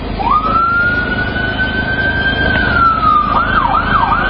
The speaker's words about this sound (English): Ambulances transporting the first rescued boys from the Thailand cave to a hospital.